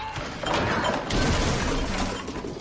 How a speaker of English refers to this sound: Lori topples the fridge onto his leg.